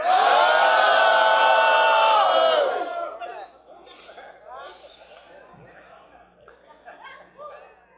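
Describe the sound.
Standing men in an audience let out a loud, sustained battle cry together on the count of three, many voices yelling in unison for a few seconds before it breaks into scattered chatter and some laughter.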